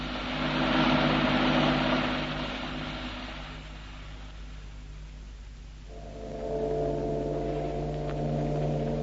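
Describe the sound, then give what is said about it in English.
A car engine hums steadily while driving, with a rush of road noise that eases as the car turns left before the motor's pitch shifts and settles into a new steady drone. “Oh, turn round here to the left. We'll cut off a bit.”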